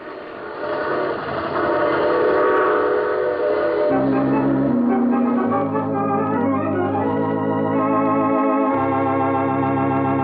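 A train rolls along the rails with a loud, steady rumble, while sustained whistle-like tones rise and shift in pitch above it for the full length. No one speaks.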